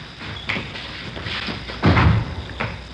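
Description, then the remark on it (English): A door is opened and shut: a light knock or latch click, a solid low thud of the door closing, then a softer tap as it settles. “Here, I'll get the door.”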